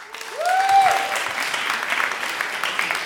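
Steady audience applause for a chosen top question fills the whole clip, a dense wash of many hands clapping at an even level, with a brief rising whistle near the start.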